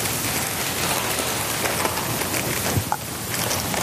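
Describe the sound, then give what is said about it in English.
Paper bags with clay and hands inside them rattle and crinkle in a dense, continuous rustle, steady in loudness with a few sharper crackles toward the end; no voices are heard. “We're going to have to talk above the rattling.”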